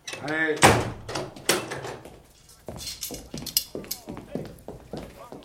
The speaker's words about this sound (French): Gendarme, fermez la porte.